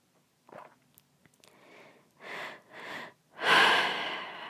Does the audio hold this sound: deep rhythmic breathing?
yes